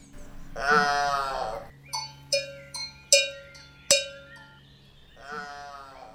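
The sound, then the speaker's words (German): A cow comes charging onto a cow meadow, letting out a drawn-out moo, then a cowbell clangs four times at an uneven pace with ringing tones, before a second, softer moo. No one speaks. “Da kommt etwas herangestürmt. Das ist doch die Wiese. Ist die Kuhwiese.”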